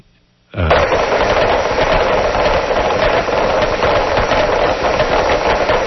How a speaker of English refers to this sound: I mean, I've got, this is called a carpenter fish, and you can hear why.